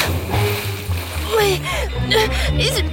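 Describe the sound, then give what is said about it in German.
A splash of someone jumping from a ship into water, with bursts of churning, splattering water following the plunge while voices call out over the commotion. “Ich bin zwar wasserscheu, aber und hopp. Hinterher.”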